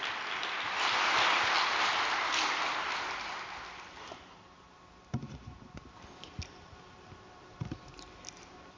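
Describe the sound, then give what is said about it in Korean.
Dense, steady applause from an audience welcoming a trainee of a 40-day training program who is to give a testimony fills the opening seconds, then fades away, leaving a few scattered soft knocks and thumps in near-silence. No one speaks. “따뜻한 박수로 맞아주시면 감사하겠습니다.”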